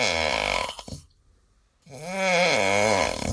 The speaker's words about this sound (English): The answer, a man snoring. Wives, you can be thankful that's not your guy, right? Or maybe it is.